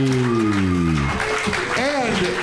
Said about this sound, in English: Clap it up one more time